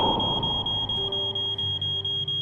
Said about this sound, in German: An einem Sonntag in Hessen. In Gießen schlägt ein Rauchmelder Alarm.